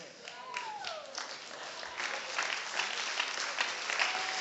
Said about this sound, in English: Now that was a good Baptist applause. We ought to be applauding these little ladies here.